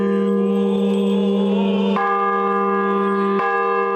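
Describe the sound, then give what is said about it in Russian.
Newly consecrated bells for a new church, rung by people trying them out on a feast day, ring out loud with strong sustained harmonic tones; fresh strikes land around two seconds and again near three and a half seconds, each renewing the ringing shimmer. “В праздничный день состоялось освящение колоколов для нового храма, после чего все желающие смогли опробовать их звучание.”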